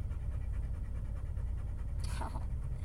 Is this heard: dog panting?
yes